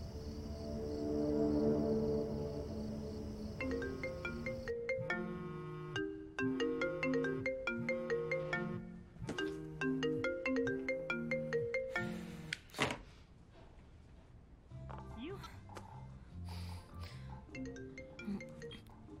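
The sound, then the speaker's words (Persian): A melodic phone ringtone plays loudly and clearly, a bright repeating tune cycling several times over about twenty seconds, with no voices over it. “چرا جواب تلفن رو نمیدی؟”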